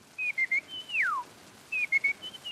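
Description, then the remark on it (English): A person whistles an imitation of a California quail call: a few short high notes, one loud sliding whistle that drops sharply in pitch, then another quick run of short notes. “To have it through some media is actually less wonderful and less amazing than to see a human being with the sound of a bird coming out of them. Plump little California quail.”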